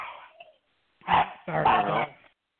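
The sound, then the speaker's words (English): Dogs bark in two loud bursts, a short sharp bark followed by a longer, rougher volley, after a brief faint whine at the start. “Who let the dogs?”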